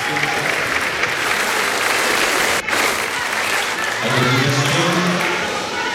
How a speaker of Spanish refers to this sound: Ahora sí, ¡viva Chile!, grita una persona en la grada que es respondido por todo el Salón de Honor con un aplauso.